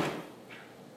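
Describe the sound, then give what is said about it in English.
A door slams shut with a muffled thud, followed by a faint rattle as it settles. The sound is fairly quiet and there is no talking. “I thought that was the wind. That door goes slamming.”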